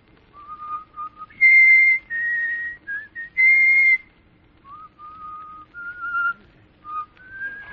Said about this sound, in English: do you know how to whistle? Sure. Let me hear your whistle coming through the rye.